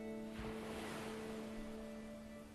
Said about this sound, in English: You're now in coastal New England. To the right of you, you can hear the sounds of the waves gently lapping against the rock-peppered cove as they come in, then recede. Come in, then recede.